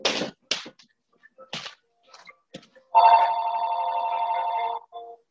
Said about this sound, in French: Je vais aller juste arrêter le téléphone.